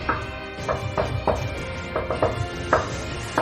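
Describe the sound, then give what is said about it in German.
Soft hammering heard from a log cabin with its door open: about ten light, dull knocks in an uneven rhythm, some coming in quick pairs, over a low steady background with no one talking. “Und ihr kommt im Blockhaus an und ihr steht alle vor dem Blockhaus, die Tür steht offen und ihr hört ein leises Hämmern.”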